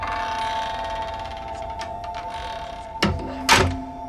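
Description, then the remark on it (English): A steady mechanical hum runs underneath, then a room door shuts near the end with two quick, solid thunks about half a second apart, moderately loud. “Luke's mum's eyes dart furtively as Morgan's door closes.”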